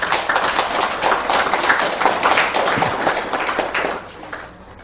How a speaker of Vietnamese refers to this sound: Rồi, cảm ơn chàng pháo tay kết thúc.